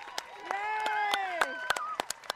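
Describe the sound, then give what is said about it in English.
Spectators at a race finish line cheer with a long, sustained shouted whoop rising over the crowd, while sharp, irregular claps snap throughout at a moderate volume. “And the amount of cheers you can hear from the spectators is simply amazing.”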